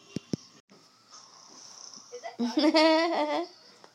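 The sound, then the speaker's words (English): A dog named River Ray pants heavily, a steady breathy huffing, preceded by two sharp clicks and ending with a brief, louder voiced whine-like sound. “Hi, River, who's panting like up a storm.”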